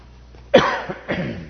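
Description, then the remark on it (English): A fairly loud throat clearing in two rough bursts, the first sharper and the second softer, with no talking around it. “And excuse me as I clear my throat.”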